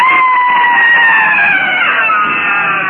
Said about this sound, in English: With a shriek, he throws the thing from him. His black lips are streaked with yellowish foam, and he throws himself to the ground, groveling.